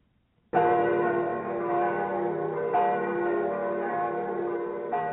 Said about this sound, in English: We could hear them in the not-too-far distance, the bells of Rome.